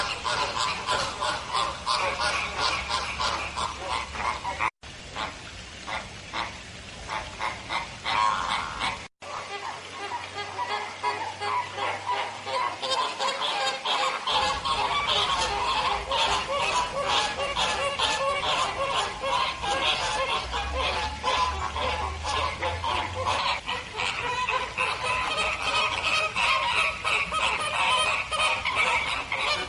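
A large flock of flamingos honks continuously and loudly, a dense, overlapping chorus of nasal calls, with two brief cuts and a low rumble underneath at times.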